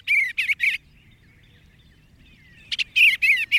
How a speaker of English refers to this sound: It's a wistful moment when your backyard swallows or bluebirds depart each fall, like the tree swallows we're hearing now.